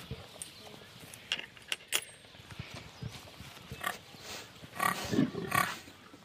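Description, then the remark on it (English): Pigs snuffle and grunt while jostling at feeding time, with scraping, clanking and short squeals in a busy scramble that grows louder toward the end. “Bully pigs will push smaller pigs out of the way, so we try to make sure it's well spread out so the smallest pig can get a fair share.”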